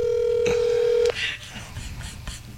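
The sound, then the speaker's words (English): A phone call tone hums steadily for about a second, ends abruptly with a click, then a few faint clicks and soft background noise follow, moderately loud, as someone places a call to a man. “I'm calling him now.”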